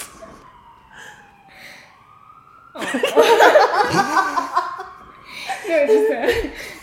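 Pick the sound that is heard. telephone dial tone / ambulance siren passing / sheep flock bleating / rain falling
ambulance siren passing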